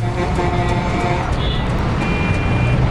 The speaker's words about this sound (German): Daraus folgend ist der Verkehr rasant angewachsen. Die Berufstätigen des einst verschlafenen San Josés quälen sich mittlerweile durch immer länger werdende Staus.